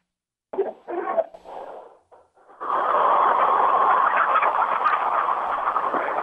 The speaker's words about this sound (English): What do you do to make them cluck so we can hear them? Most general, they'll just do it on their own, or if I snap my fingers at them. Let's hear some. A lot of clucking.